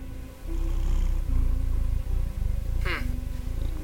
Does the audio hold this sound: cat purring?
yes